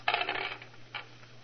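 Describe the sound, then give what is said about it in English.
Crooked dice clatter and tumble across a backgammon board in a quick rattling burst, rolled for a 6-5 and landing on 6-5, followed a moment later by one last small click as they settle, over a faint steady hum. “Well, wait until the district attorney hears about the district attorney and his crooked dice.”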